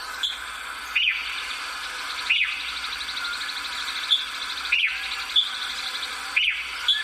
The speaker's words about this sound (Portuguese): Este canto de um sabiá do campo foi captado por um morador de Brasília.